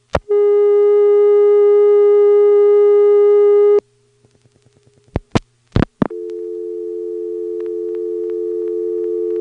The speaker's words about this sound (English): Let's dial 9, let the dial tone time out, and we'll see whether it times out to a busy or a reorder. It's got to be one or the other.